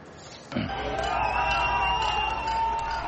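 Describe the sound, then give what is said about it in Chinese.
A large crowd of diplomats, well-wishers and demonstrators roars into loud, sustained cheering and slogan chanting after a brief quieter moment, many voices shouting together in a dense, continuous wash, as the Cuban flag is raised outside the newly opened Cuban embassy after the US and Cuba restored diplomatic relations. “在欢呼声和口号声中，外交官、祝福者和示威者都在观看古巴国旗在新成立的大使馆外面升起。”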